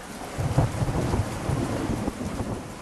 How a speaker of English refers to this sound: In northern Arizona, monsoon season has begun, as southerly winds bring thunderstorms to the parched desert.